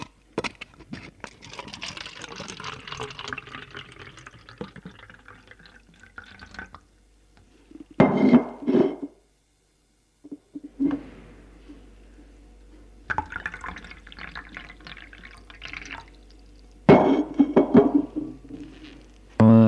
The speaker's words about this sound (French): Elle remplit les verres.